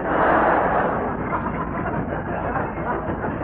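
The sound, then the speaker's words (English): A train rumbles past a shabby room just outside Salford, a loud, steady roar of wheels and engine noise that barely changes over a few seconds, with no voices heard over it. “Them ruddy trains drive me mad.”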